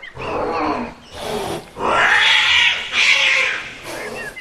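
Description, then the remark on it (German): An angry mother cat, Mietz, guarding five kittens on the upper level of a boathouse, hisses and spits at a hand reaching up in about five loud, harsh bursts, with low growling tones between them and no voices. “Kein Wunder, dass sie dich anfaucht.”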